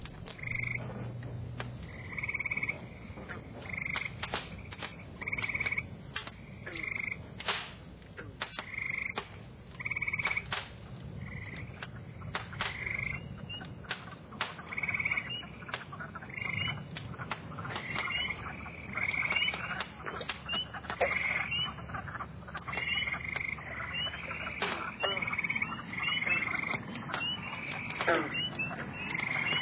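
A dense chorus of frogs croaking loudly and continuously, with repeated pulsing calls overlapping in a steady rhythm, unbroken with no voices.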